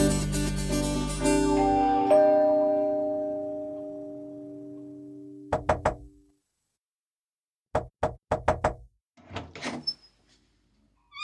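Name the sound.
knocking on a door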